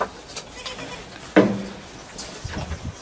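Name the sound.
goats bleating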